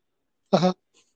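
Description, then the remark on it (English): A single short, loud meow-like animal call, about a quarter second long, heard alone, followed by a faint tiny click and silence. “Let's see how many cats are in the room.”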